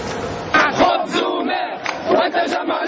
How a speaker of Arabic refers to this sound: إنه شعار المرحلة، خبز وماء والتجمع لا. هؤلاء المتظاهرون الذين تجمعوا في العاصمة تونس يريدون أن يختفي حزب التجمع الدستوري الديمقراطي من الوجود.